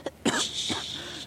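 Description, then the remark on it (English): A single sharp sneeze bursts out abruptly, followed by a breathy hissing exhale that trails off. No one speaks. “I didn't sneeze.”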